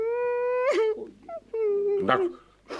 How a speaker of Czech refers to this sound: Tak dost už pláče.